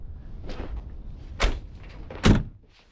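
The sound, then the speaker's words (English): Two solid thuds of a Ferrari's door being shut, the second louder and heavier, with some quieter shuffling and handling noise before them, and no voices. “Get in. We only have 14 minutes left. Okay. No fingerprints on the door.”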